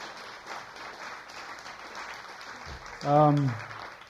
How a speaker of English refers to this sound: I work here, so this is their night off, and they're here. So let's give them a round of applause for being here and doing that.